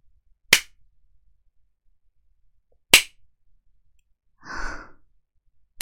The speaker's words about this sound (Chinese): 在被主人鞭打的时候， 你没有报数。一共四个错误，每个错误五下。那小狗今天还要挨20下鞭子呢。记住，要报数哦。